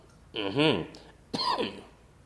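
A man clears his throat with a voiced, rasping rumble, pauses, then gives a second shorter cough-like clearing, fairly loud with no talking.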